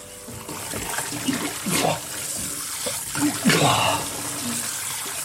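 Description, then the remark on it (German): A steady hiss of running water pours continuously like a shower stream over a man standing under it, with a few indistinct vocal sounds rising briefly over it. “Unter dem Wasserstrahl ließ die Betäubung nach.”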